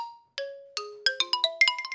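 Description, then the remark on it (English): A xylophone plays a short run of bright struck notes, starting with a few spaced hits and speeding into a quick flurry, each tone ringing briefly before fading. No voices. “on xylophone.”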